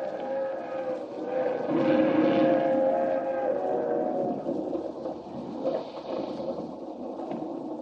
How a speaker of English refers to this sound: Here comes the train.